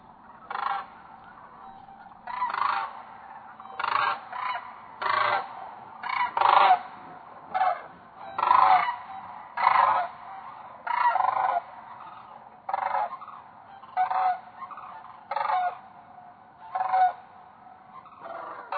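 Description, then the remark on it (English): Cranes call again and again on shore at Glacier Bay and Gustavus in fall, recorded overnight: loud rolling bugles in short bursts at an irregular pace, with several birds overlapping and no talking. “this is what it would sound like if what was on shore was a crane”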